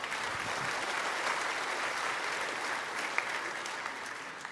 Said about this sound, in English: As I've said before, heaven, yeah, it's worth clapping for. Go ahead.